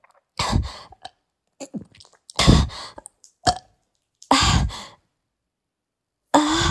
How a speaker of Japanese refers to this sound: やばい。なんか、炭酸一気飲みしたから、なんか変なゲップが出る。ちょっと待って、ちょっと待って。なんか、ちょっと待って。なんか、おならも出そうなんだけど、なんでだろう。やばいかな。ゲップ出る。